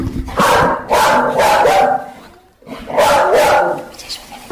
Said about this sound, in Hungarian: Stílszerűen egy kis kutyaugatással kezdjük ezt az interjút.